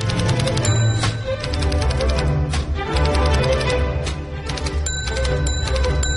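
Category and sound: machine, typewriter typing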